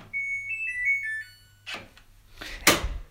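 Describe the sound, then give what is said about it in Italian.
A washing machine's power-off chime plays a short, bright electronic jingle of several stepping notes over a low steady hum, followed by a few dull clunks and a sharp click. “Annulliamo tutto. Spegniamo la lavatrice.”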